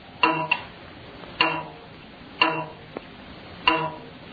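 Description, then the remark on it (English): A plucked telegraph spring twangs four times at uneven intervals, the sound with overtones Alexander Graham Bell heard on June 2nd, 1875; each pluck a bright metallic onset ringing with stacked overtones that fade quickly, with a faint extra tick between the last two. “The moment Bell heard the overtones of that spring, he knew he had solved the problem of talking by telegraph.”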